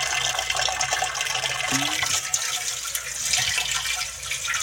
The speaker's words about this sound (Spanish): llenando un cántaro.